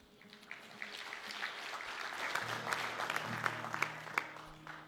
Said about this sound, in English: You can applaud, she's amazing.